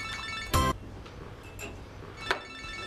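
A mobile phone ringtone plays, a steady electronic tone with bright harmonic chimes, broken by two short sharp bursts. No one speaks, and the ringing is moderately loud.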